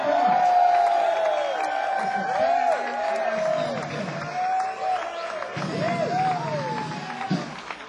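audience cheering and applauding

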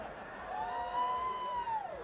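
crowd cheering and whooping

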